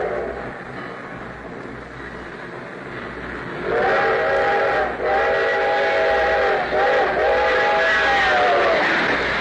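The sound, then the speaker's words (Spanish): A train rumbles steadily along the tracks, then a loud, sustained horn sounds in long, slightly wavering blasts with brief breaks, continuing over the rolling noise until the end. No one speaks. “Crucemos aquí los rieles. Pero espera. Allá viene el tren.”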